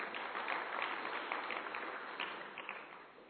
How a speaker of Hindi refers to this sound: तो आपके लिए भी तालियां।